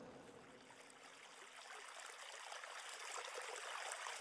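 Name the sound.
flowing stream water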